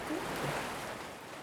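A steady wash of ocean surf, a broad hiss of breaking water as waves roll in and pull back, holding fairly even and easing off slightly toward the end, with no voices.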